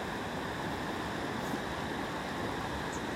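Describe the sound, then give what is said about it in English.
A fast, swollen river with stepping stones, crossed by a bridge near abbey ruins, rushes steadily, a dense, unbroken roar of churning water with no voices or other sounds over it. “I think the stepping stones are more of a summer thing when the river isn't quite as ravenous as it is today.”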